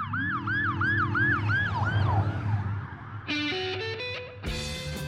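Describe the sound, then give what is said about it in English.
A police car siren wails in quick repeating rising-and-falling sweeps over a low engine rumble as the car leaves a courthouse, fading after a few seconds as other sounds take over. “Officers stuffed Floyd in the waiting police car and left the courthouse with sirens wailing.”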